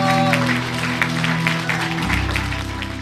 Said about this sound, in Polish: Gorące brawa!